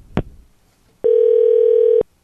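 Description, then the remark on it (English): A sharp click, then a single steady electronic ringback tone lasting about a second, loud as if over a phone line, with no one answering and no voices. “All right, she's not picking up.”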